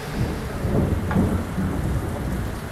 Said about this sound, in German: so klang das vorhin im Innenhof bei uns im Funkhaus, ja, als es endlich geregnet hat.